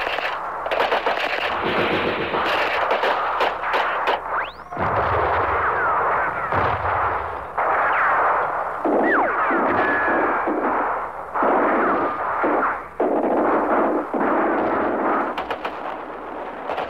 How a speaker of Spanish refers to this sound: No nos pareció raro, pasó, dio como una vuelta y de repente soltó 2 bengalas verdes hacia el cielo y se oyó la primer ráfaga de metralla.